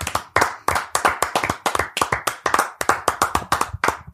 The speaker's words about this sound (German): Es war auch ein übelst langer Applaus irgendwie gerade, ne? Ja, weil wir uns wirklich für ihn gefreut haben.